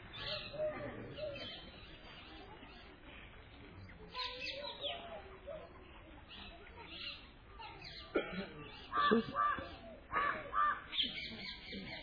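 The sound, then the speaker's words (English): A crow caws several times amid other birds calling by a lake, with a soft outdoor hum and a faint voice in the background. “Even the crow sounds wonderful here.”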